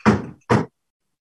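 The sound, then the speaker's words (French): Two firm knocks by police on a back door leading into a bedroom, fairly loud, separated by a brief pause, each with a short resonant ring before silence. “Et peut-être une heure plus tard, ben je ne sais pas parce que je dormais, je n'ai pas regardé l'heure, ça cogne à ma porte, mais là, ça cogne à ma porte d'en arrière qui donnait sur ma chambre.”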